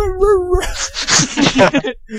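A dog gives a brief, high, wavering whimper lasting about half a second, then a burst of louder, rougher vocal noises and mumbling follows.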